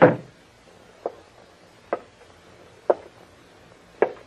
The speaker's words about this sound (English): You close that door and come back here. Close it, I said.